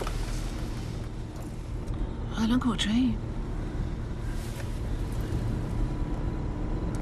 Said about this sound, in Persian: تو هم شنیدی؟ چیا؟ فکر کنم موتور ماشین یه صدایی داد. دیگه واسه خراب شدن ماشین یکم دیره، باید عقبتر یه جا وامیستادیم.